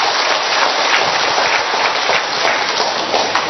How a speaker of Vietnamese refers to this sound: Chúng ta tạ ơn Chúa và một tràng pháo tay thật lớn nữa thưa anh chị em.